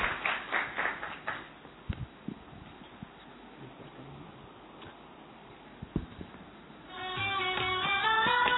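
A short burst of welcoming audience applause at Madhuban opens, dense clapping that quickly fades into a few scattered claps and near silence, before steady music comes in at the end.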